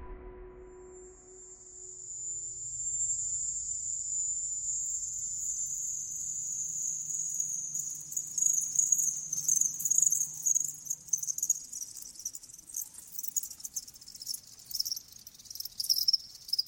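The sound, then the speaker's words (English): A recording of the sound reported in Havana, Cuba, identified as crickets: a dense, continuous high-pitched chirring, steady and fairly loud, swelling into pulsing trills toward the end, over a faint low rumble with no voices. “That's a cricket.”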